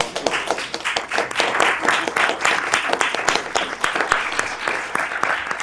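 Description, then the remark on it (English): Many people applaud the net team steadily, dense overlapping claps with sharp bright transients, sustained at an even, fairly loud level for several seconds without talking. “Mayor, can we suspend the rules to give it some round of applause to our net team?”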